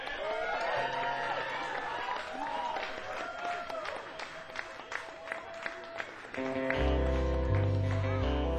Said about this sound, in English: They were in the UK for a while, so this is their welcome home show. So we need to give them a huge round of applause.